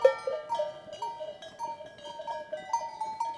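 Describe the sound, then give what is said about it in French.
Many sheep bells clank and jingle on a flock of ewes in the mountains, in an irregular, overlapping chorus, their metallic tones ringing at moderate loudness over soft rustling of the ewes grazing and stepping on the ground. “écoutons ce concert de sonnailles”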